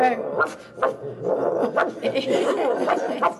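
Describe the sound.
A person mimics a dog with a run of short, yappy barks and yips, loud, spaced irregularly over a few seconds with breathy vocal sounds between them.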